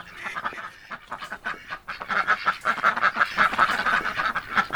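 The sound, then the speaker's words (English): A flock of ducks quacking in a dense, overlapping chorus of rapid calls, growing louder and busier after the first couple of seconds, with no voices. “And they're also not exactly the quietest creatures on the planet.”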